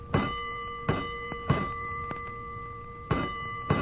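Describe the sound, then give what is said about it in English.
A fire alarm bell taps out box number 3-2 for a third alarm: three ringing strikes, a pause, then two more, each clang leaving a sustained metallic tone that hangs between hits. No one speaks. “Hold it, …, third alarm.”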